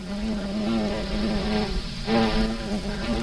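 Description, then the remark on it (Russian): A bumblebee sheltering under a burdock leaf in the rain buzzes continuously while warming up, a steady low droning hum that wavers slightly in pitch without taking off, with no voices present. “Жужжит, а не взлетает. Греется.”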